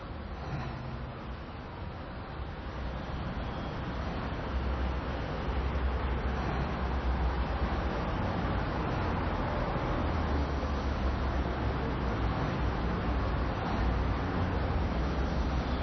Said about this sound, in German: Von rechts kommt jemand, vor mir fahren die Autos quer.